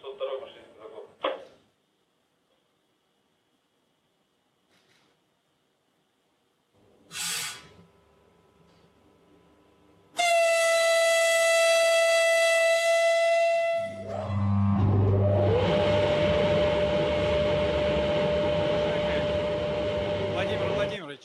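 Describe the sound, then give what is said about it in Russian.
After a brief burst of voices, a loud, sustained train horn sounds for about four seconds, then a heavy low rumble and droning tone swell as the train pulls away from the western portal of the new Baikal tunnel, to pass through the tunnel in about 10 minutes toward Daban station. “Сейчас двинется поезд, и в течение приблизительно 10 минут он должен проследовать через тоннель.”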